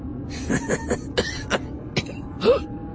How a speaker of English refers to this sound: Vrath chuckled, but it turned into a cough and a wince.